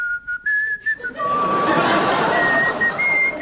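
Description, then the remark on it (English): A person whistles a thin, wavering tone imitating an arrow whistling past someone's ear, the pitch dipping and rising over a few seconds, partly swamped midway by a loud, noisy wash of background sound. “Suddenly, an arrow, cleverly portrayed by …, whistled by my ear.”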